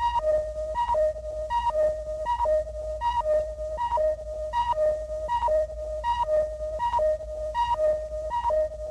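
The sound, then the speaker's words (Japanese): A steady electronic warning beep from an energy timer on a warrior's chest, flashing as energy drains, pulses over and over at a quick, even rhythm, each pulse a two-note chirp stepping up in pitch, sounding alone over a low hum. “いけない、エネジータイマーが。”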